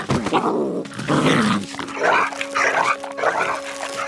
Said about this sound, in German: Im Dorf wurde der Kojote an einen Pfahl gebunden. Er versuchte, sich loszureißen, schaffte es aber nicht.